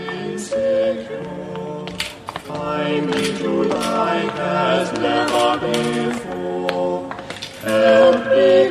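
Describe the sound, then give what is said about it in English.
Coins clink and drop into a collection plate passed around during a church collection, in scattered, irregular bursts, heard over sustained chord-like music that plays throughout at a steady, moderate volume. “The church beetle will pass among you. No foreign coins, please.”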